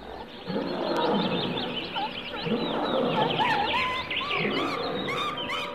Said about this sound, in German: Richtig, im Zoo, bei den Affen und Tigern und Löwen und, ja, da ist noch einer, der immer so macht.